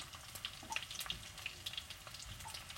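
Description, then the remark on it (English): Hot oil sizzles and spatters steadily, a dense crackling hiss broken by sharp little pops at irregular moments, with no voices present. “No, it's not. It's just the oil that bounced up.”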